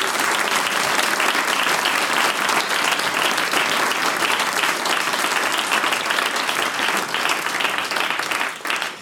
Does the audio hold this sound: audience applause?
yes